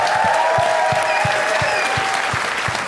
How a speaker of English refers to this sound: Let's give a warm round of applause to Jeff Nichols, everybody.